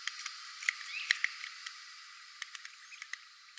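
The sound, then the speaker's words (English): A red-cockaded woodpecker, an endangered species, in a wildlife refuge gives a few short, sharp, squeaky call notes, fairly faint, over a soft background of scattered ticks and light outdoor hiss. “The red-cockaded woodpecker.”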